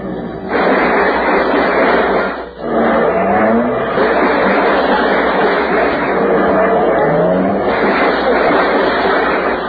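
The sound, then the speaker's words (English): A car engine drones loudly and steadily, dipping briefly once before surging back, with a few rising whines like gear changes or revs, as the car pulls up and parks in front of a California home, a Quonset hut. No one speaks. “And finally, I pulled up in front of my California home, a Quonset hut surrounded by good humor men and wife folks.”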